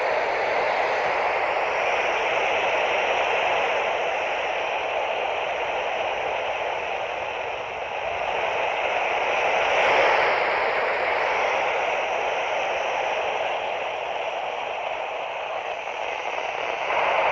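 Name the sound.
radio static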